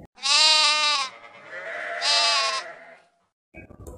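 A flock of sheep bleats twice, each a loud, wavering, drawn-out cry separated by a short pause, followed by a brief scuffling noise at the end. No one speaks.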